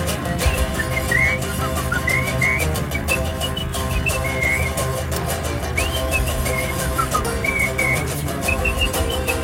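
Someone whistles a bright, bouncy melody in short, sliding phrases, riding clearly on top of a dense, steady band accompaniment throughout.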